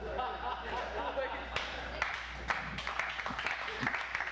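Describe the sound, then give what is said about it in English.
An audience at Redemption Church breaks into scattered clapping that builds into steady applause over a few seconds, mixed with crowd murmur and some voices, moderately loud throughout. “Sure, you can clap for that.”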